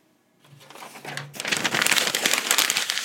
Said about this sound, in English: Well, after you're done writing on the back page, you crumple up the piece of paper.